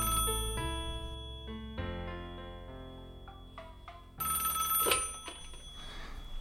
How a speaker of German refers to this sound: Als plötzlich das Telefon klingelte, konnte ich kaum den Elan aufbringen, den Hörer abzunehmen.